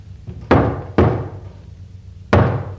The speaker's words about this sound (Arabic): دي خبطة الشاطر عالي، افتح الباب يا حنيشة.